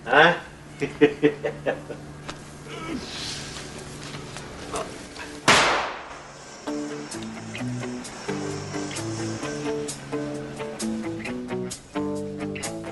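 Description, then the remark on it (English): Firecrackers go off in a quick, uneven burst of sharp pops. A single louder bang follows a few seconds later, then steady music plays on. “That's why life's letting out firecrackers.”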